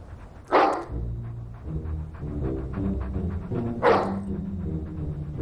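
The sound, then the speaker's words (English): Inside a house, a dog gives two sharp barks, spaced about three seconds apart, over a low, steady humming tone that continues between them. “Dream on, dog.”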